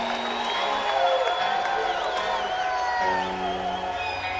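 A large live concert crowd in Texas roars and cheers continuously, with scattered whoops and whistles rising over a dense wash of voices, plus a low steady hum underneath.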